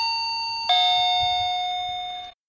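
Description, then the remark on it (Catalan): A two-tone doorbell chime rings alone: a higher ding, then a lower dong that hangs with a bright, slowly fading ring before cutting off abruptly. “Després d'un minut, en Daram va picar la porta.”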